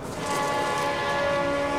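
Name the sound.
approaching train with horn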